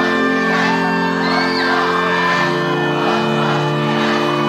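A loud concert crowd roars and chants "mocskos Fidesz" together in a sustained, dense wall of voices, with rhythmic chant-like swells and steady background hum.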